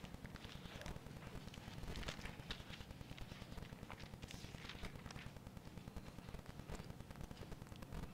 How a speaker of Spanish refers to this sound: Paréntesis, estoy muy contento de estar acá y escuché las hojas de la Biblia pasar. Yo sé que hoy en día la electrónica siempre, bueno, la Biblia se cliquea. Hubiera sido uno que haga un app cuando uno busque la Biblia en el celular que suene.